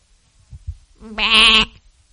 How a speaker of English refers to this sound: And that's goat or sheep talk, whatever you want to call it, for thank you, God.